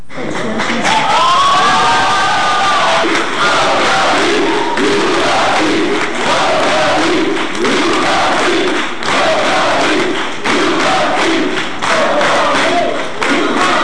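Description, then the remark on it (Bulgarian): A loud, dense crowd of Bulgarian volleyball fans cheers and chants continuously at the welcome for the Bulgarian national volleyball team, with raised voices swelling in waves and scattered claps and thumps running through the roar. “Ето атмосферата от посрещането и думите на капитана Пламен Константинов”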